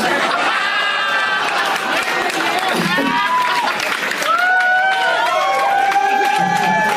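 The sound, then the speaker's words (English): A live audience reacts loudly and continuously, a dense roar of many voices cheering, whooping and calling out, with scattered clapping underneath for several seconds. “Sucking up to the hometown crowd.”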